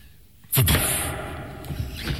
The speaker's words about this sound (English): What was that? That was the door.